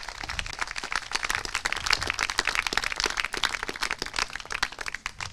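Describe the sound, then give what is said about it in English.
A crowd applauds steadily for about five seconds, a dense, crackling patter of many hands clapping at once with no voices over it, tapering slightly toward the end. “Yeah, round of applause.”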